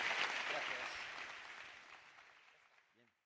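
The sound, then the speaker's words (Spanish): A crowd applauds Daniel Marín after his talk on searching for planets, clapping steadily in a dense wash of applause that gradually thins and fades away over a few seconds, with no one speaking. “Bueno, pues no nos queda tiempo para más, así que un aplauso para Daniel Marín.”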